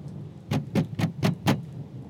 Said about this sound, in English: A bang at the door startles you for a moment as the letter from Grandpa falls to the ground.